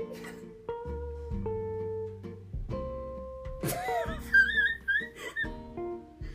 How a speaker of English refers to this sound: Yo, I had that whistle tone though. Did you hear that? What? My whistle tone. That was pretty good.